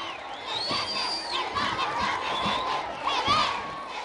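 Thousands of Mexican children gathered in the Plaza de la Paz and nearby streets in Guanajuato, Mexico, cheer and shout continuously as Pope Benedict XVI comes out onto a balcony, high-pitched voices rising in swelling waves of excited calls and whoops, loud and sustained throughout.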